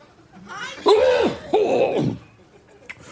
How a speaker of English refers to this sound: And he hasn't quite figured out what to do with his microphone when he needs to cough.